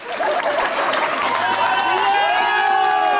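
A crowd applauds and cheers steadily outdoors, clapping dense and sustained, with shouts and whoops rising above it and a low hum underneath throughout.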